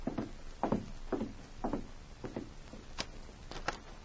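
A series of firm knocks on the wooden door of a cabin at the edge of town, almost midnight, fairly loud, falling in an uneven rhythm of about nine raps with no voices.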